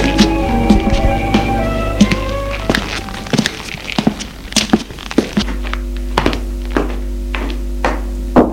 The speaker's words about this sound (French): Arrivé chez ses parents, il va frapper à la porte du bureau de son père.